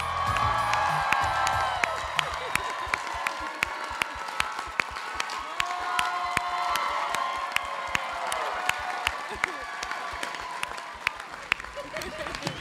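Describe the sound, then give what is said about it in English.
A large live audience claps and cheers continuously as performers are welcomed to the stage, dense applause crackling with scattered whoops and shouting voices, loud and sustained throughout without letting up. “Look at this crowd. This is amazing.”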